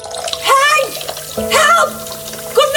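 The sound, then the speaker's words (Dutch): Water runs and gushes steadily, a constant splashing wash that continues throughout, flooding a kitchen floor because the kitchen drain is blocked, while excited voices speak over it. “In de keuken. Heel de vloer staat onder water.”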